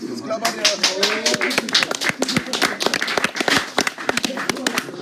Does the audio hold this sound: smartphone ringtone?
no